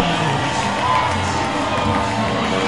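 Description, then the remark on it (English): A ballpark crowd at a Blue Claws baseball game cheers during the t-shirt toss, with the Blue Claws leading 5-0, in a steady, loud roar, with scattered high-pitched shouts and whoops rising from the dense wash of voices throughout. “Crowd really into it.”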